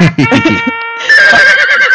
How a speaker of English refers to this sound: I love the horse sounds.